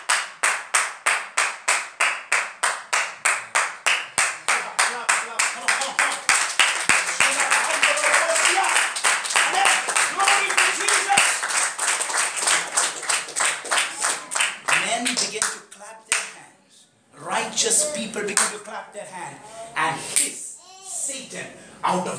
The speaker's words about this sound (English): So number one, when you clap, it expresses victory. Number one thing that clapping does, it expresses your victory.